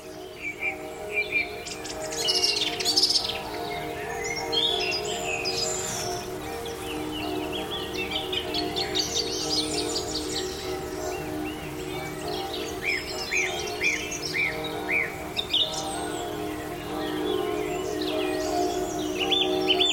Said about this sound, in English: And here you can hear above the sound of the bird chorus and the dusk chorus, the bells ringing in the local church, Église Saint-Pierre, again to thank all of the medical personnel across France.